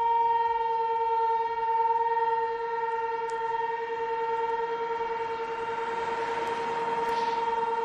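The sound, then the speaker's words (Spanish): A dam failure warning siren for the Cecebre reservoir sounds during a morning test of the acoustic alert system for a dam break, a steady, unwavering chord-like tone held at an even volume for the whole stretch, with no voices present. “Pues ha sido una prueba para avisar a la población de los embalses, en este caso el de Cecebre, para comprobar el sistema de aviso acústico en caso de rotura.”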